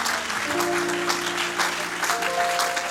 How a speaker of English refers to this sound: Come on, church. Hallelujah. Amen. Why don't we give him a good hand clap of praise in this house this morning?